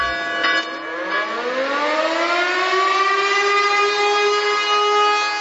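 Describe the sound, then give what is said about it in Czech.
A civil defense siren in Serbia, sounded at noon for a minute of silence, winds up from a low pitch and rises into a loud, steady wail that holds for several seconds, with no voices present. “Tačno u podne, uz zvuk sirena i crkvenih zvona, Srbija je minutom ćutanja odala poštu Srbima koji su stradali 90-ih.”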